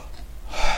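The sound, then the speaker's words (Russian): A short, audible breath drawn in and out, a breathy rush that swells sharply near the end like a quick gasp, with no talking. “Вдох-выдох, мощно виршем дышим.”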